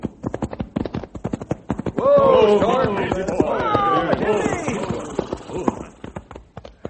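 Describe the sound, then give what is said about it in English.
Rapid, regular clip-clop of horses' hooves trotting, steady through the whole stretch, with voices talking over the middle portion. “Fellas, let's saddle up and go out to the canyon and do our own sleuthing.”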